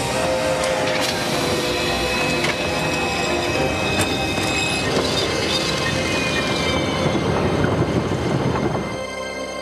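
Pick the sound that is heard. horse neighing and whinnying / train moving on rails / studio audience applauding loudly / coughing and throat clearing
train moving on rails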